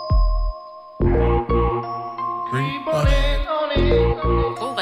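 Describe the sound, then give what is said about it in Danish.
A bright electronic mobile phone ringtone melody plays loudly and alone, a quick run of chiming synth notes over pulsing bass tones, repeating its catchy phrase for a few seconds. “Ja, det er faktisk en fin ringetone.”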